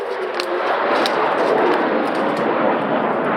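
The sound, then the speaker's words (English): A continuous, loud rushing roar of missile defense interceptors launching to hunt incoming Iranian missiles outside Sheba Hospital, steady throughout with faint crackling bursts on top and no voices. “As is outgoing missile defense, hunting incoming Iranian missiles.”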